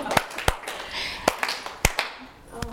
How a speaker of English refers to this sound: Tap, tap, tap. Slap, slap, stamp, clap. Keep going. Just keep going.